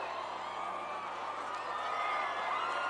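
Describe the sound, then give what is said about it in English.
A large crowd at a DJ set screams and cheers on cue after a count of 'uno, dos, tres', in one sustained, steady roar of many overlapping high voices, loud and unbroken for the whole few seconds. “Uno, dos, tres, everybody scream!”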